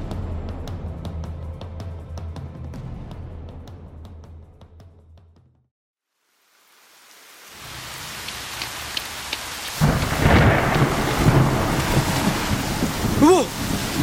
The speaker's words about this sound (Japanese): 雷か。早く帰んないと。